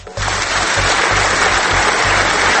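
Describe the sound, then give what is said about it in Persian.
A crowd at a meeting bursts into loud, sustained applause for Ahmadinejad that starts abruptly and holds steady as a dense wash of clapping, with a faint rhythmic low thump running underneath. “احمدی نژاد که دید خب دارن تشویقش میکنن”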